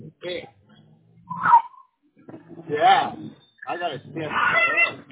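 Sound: dog whimpering and barking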